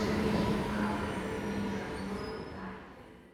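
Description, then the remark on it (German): A train from platform 3 rumbles steadily along the rails on a ride of 3 minutes 12 seconds, heard from inside the carriage, with dense low-frequency roar, faint tonal hums and a high whine that rises briefly before the noise fades slightly. “So, die Bahn auf Gleis 3 gerade noch erwischt. Fahrtdauer 3 Minuten, 12 Sekunden.”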